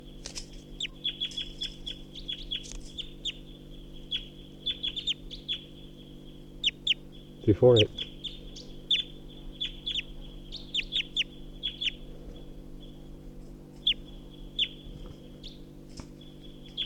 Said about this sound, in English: So recording, this is a wild bird perched at the tall pine.